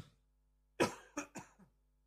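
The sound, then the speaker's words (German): A short run of coughs: one harsh, forceful cough followed by two quicker, lighter ones and a faint trailing rasp, with no talking. “Ich glaube, ich brauche mal irgendeinen Hustenbonbon.”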